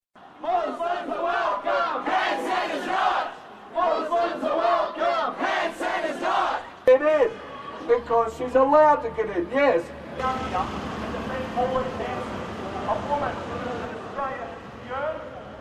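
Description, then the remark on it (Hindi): A protest crowd outside the ABC building, before the Q&A program featuring the One Nation leader, chants in loud, rhythmic bursts of many voices, pausing briefly between phrases, then gives way to a single amplified voice shouting over continuing crowd noise and murmur. “ये थे ABC के बाहर होने वाले विरोध प्रदर्शन या प्रोटेस्ट्स।”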